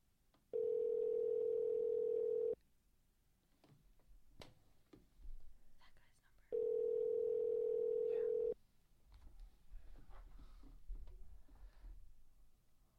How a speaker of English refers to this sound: Answer the phone.